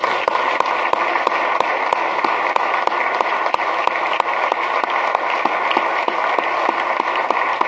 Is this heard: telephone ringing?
no